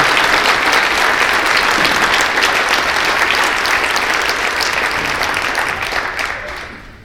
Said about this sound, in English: So if everybody, if we could give one more round of applause to the Marshall High School Booster Club for welcoming you to this community.